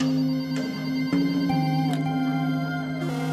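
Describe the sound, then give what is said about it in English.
A telephone rings in a Homicide Squad office with steady electronic tones that shift pitch a few times, sustained, with no voices over it. “We're sitting in the office when the phone rang.”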